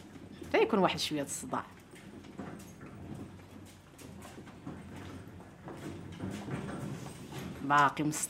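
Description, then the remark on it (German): A cart rattles past with steady clattering and clopping beneath footsteps, while voices call out briefly at the start and near the end. “Schritte, ein Karren fährt vorbei.”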